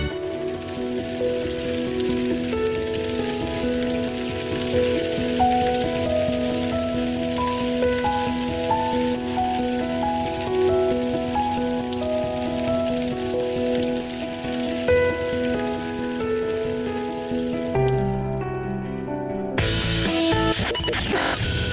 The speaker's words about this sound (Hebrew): אוקיי, סידרנו לכם מים, סידרנו לכם גשם, בעזרת השם תהיה שנה ברוכה.